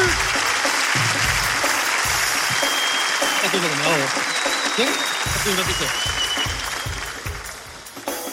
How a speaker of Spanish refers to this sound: ¡Un fuerte aplauso! ¡Claro que sí!